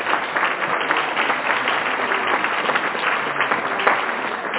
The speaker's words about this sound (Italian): Un applauso.